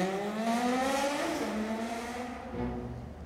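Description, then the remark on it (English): A motorbike engine roars loudly on a dark road outside an apartment block, nearly hitting a man standing in the road. Its pitch slides up and down as it passes and revs, then the bike stops and surges again as it pulls away. No one speaks. “A motorbike roars by and nearly hits him.”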